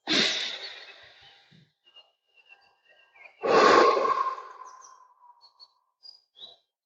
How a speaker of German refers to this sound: Das heißt, wenn ihr diese Entspannungsatmung jetzt noch ein bisschen länger machen wollt, dann drückt einfach auf Pause und atmet nochmal ganz in Ruhe ein und aus.